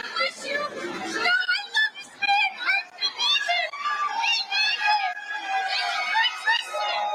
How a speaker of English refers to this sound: This is the booing.